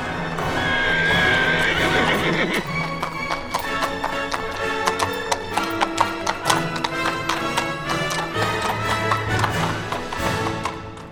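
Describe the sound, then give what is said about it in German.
A horse gives a loud, drawn-out whinny, then hooves clip-clop in a steady, brisk rhythm for several seconds as a rider rides away on horseback, trailing off slightly at the end. No one speaks. “Also machte sich der Älteste zu Pferde auf und davon.”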